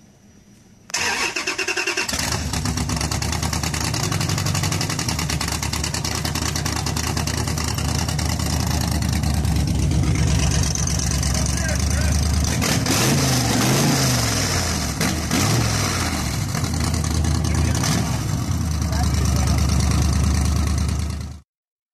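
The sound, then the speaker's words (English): A car with a 392 Hemi engine, side pipes and electronic exhaust cutouts cranks and fires up loudly after a brief silence, then settles into a deep, rumbling idle with occasional throttle blips, for about twenty seconds with no talking. “But you got the electronic exhaust cutouts on the side. And damn, when this thing starts up, does it sound good.”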